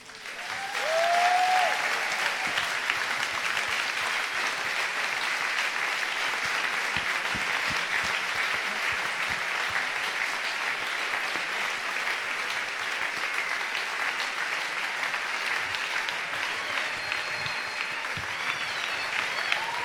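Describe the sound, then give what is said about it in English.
A crowd claps steadily, a dense wash of many hands that swells quickly and holds at an even, loud level for the whole stretch, with no voices rising above it. “Come on, let's give Janine a huge round of applause.”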